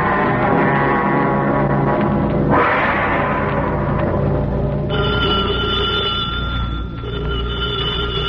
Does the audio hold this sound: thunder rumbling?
no